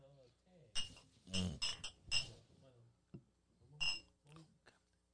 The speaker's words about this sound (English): But, yeah, so we got the Grand Leander. We about to, we already poured up. We about to take a shot real quick. Drinks up. Shot o'clock. Let's get it, y'all. Privileged drinkers, baby. Clink.